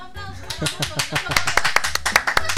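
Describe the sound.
Brisk, steady clapping from a small audience, sharp claps close together in a quick rhythm, with a voice murmuring faintly underneath.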